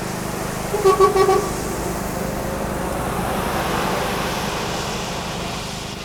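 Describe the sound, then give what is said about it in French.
A short burst of car horn honks from vehicles passing a cabin at a roundabout at first light sounds around the first second, a few quick toots over a steady rumble of traffic moving around the roundabout that continues to the end. “La circulation reprend autour du rond-point, depuis une petite heure. Certains véhicules klaxonnent quand ils passent à proximité de la cabane.”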